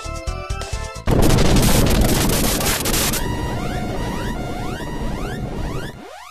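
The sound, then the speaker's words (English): A flying ship swooshes in and crash-lands, taking a little damage, with a loud, noisy roar lasting a couple of seconds, followed by warbling electronic chirps and a final falling whoosh. No one speaks. “You could have crashed into us or something.”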